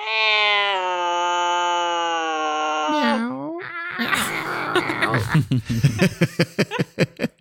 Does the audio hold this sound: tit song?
no